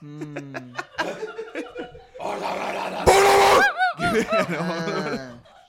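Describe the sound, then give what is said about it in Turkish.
A person imitates a dog as a vocal technique exercise, with a run of sharp, yelping barks and a rough, strained howl, mixed with bursts of laughter and chatter from others. “Bak ne güzel havlıyor temiz.”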